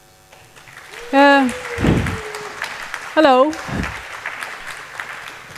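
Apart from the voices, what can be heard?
audience applause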